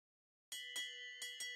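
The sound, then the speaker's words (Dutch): A bright metal bell rings as the starting signal for a joust between two mounted knights in an arena, five sharp dings with a shimmering ringing tone sustained between them, fairly loud, starting after a brief silence. “Daar klonk de bel.”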